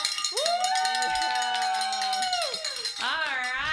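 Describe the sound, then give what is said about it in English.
A bell rings out to mark reaching 10 pledges in a pledge drive, a bright, sustained metallic tone that wavers and bends in pitch, followed by a second burst of ringing, with faint crowd-like noise underneath. “They were the number 6 through 10 pledges that got you to ring the bell at 10 pledges.”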